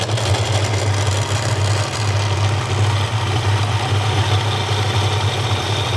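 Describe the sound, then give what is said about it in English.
The McSharry family's kitchen blender at their house outside Grange, North Sligo, whirs steadily at full speed at 5:20 in the morning, making a breakfast of granola, yogurt and fruit: a loud, continuous motor drone with a deep hum and a harsh whine over it, running without pause. “That's the sound of the McSharry blender going flat out at 20 past five in the morning.”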